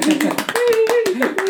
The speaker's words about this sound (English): And I think now you get your well-deserved round of applause.